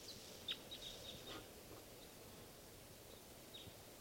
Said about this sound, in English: I think there's at least two birds here, pointed at one of the birds.